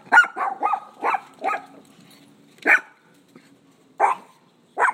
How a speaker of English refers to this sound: Hey, puppies. These are new neighbor dogs that just moved in.